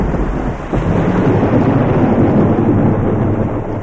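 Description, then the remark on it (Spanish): A dense, steady roar of heavy rain from a downpour starting, with deep rumbling underneath, like a thunderstorm breaking overhead. It's loud and continuous throughout, with no voices. “Resulta que va a caer un aguacero.”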